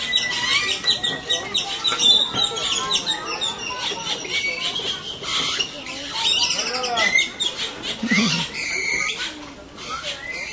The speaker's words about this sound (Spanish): Ok, aquí estamos escuchando, todavía estamos en el zoológico aquí en Chapultepec, y estamos escuchando una variedad de aves que se escuchan muy simpáticos.